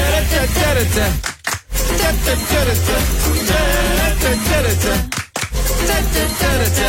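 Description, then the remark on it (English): A loud, upbeat jingle for the radio game Rhyme Time, with rhythmic hand claps driving over a heavy bass line and melody, cutting out briefly twice before carrying on. “Nice claps.”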